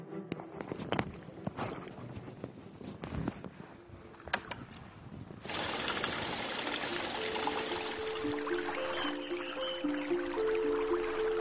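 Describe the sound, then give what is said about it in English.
A few scattered footsteps and knocks, then a steady rush of seawater flowing in a storage well at salt brine pans, connected to the sea by an underground culvert, swells up and continues loudly to the end, with a faint hollow echo and no talking. “Seawater is stored in this well. It is connected with the sea by an underground culvert.”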